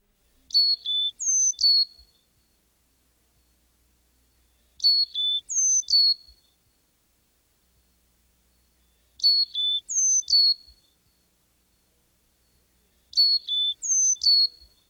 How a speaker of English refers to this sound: The Carolina chickadee also has a Phoebe-like song, but it's in four parts. The song sounds like Phoebe, Phoebe.